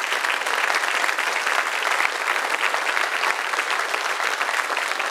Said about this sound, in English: All right, sit down. Yeah, okay. Nobody claps for me at home. So, and to have a standing ovation, of course, you were coerced by your pastor to stand and do that.